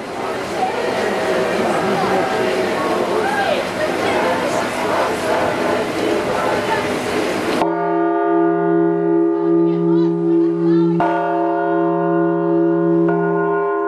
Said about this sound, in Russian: И вот приподняли главный благовест за 1,5 тонны весом. И батюшка первый попробовал голос колокола.